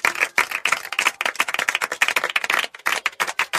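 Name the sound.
applause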